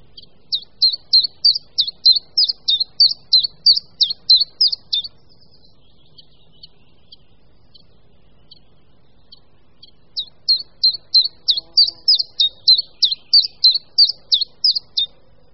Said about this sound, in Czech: V létě zpěv umlká, ale po proběhlém hnízdění a pelichání se začínají občas budničci menší ozývat znovu, zejména za jasných podzimních dnů až do listopadu.